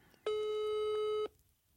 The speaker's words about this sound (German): Läuft. Also, Freizeichen hat er schon mal. Das hat er selten.